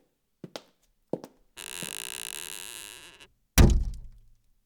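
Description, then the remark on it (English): A bedchamber door is pushed shut: a few light clicks of the handle, a long grinding creak as it swings, then one heavy thud that rings out briefly. No voices. “Close the door.”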